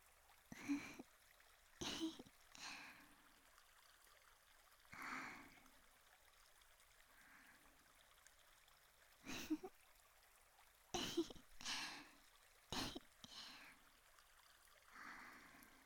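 A gently flowing river murmurs steadily and softly throughout on a summer day, its quiet rushing broken now and then by brief, sharper bursts like small splashes or knocks.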